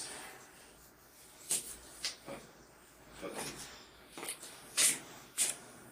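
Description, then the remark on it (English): A man blows his nose loudly in a series of short, forceful, hissing honks spaced irregularly over a few seconds, with quiet background noise between bursts. “I think he's blowing his nose.”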